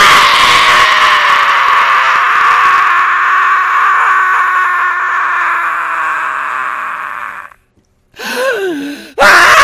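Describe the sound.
A long, loud, sustained scream holds for about seven seconds, slowly fading as if someone is falling away. It cuts off abruptly, followed by a brief wavering, wailing cry.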